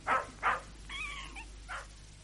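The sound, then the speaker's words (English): A puppy gives two quick, high yaps, a short whining cry, then one more yap, with no one talking and a low steady hum underneath. “Yeah, that puppy's as daft as a brush.”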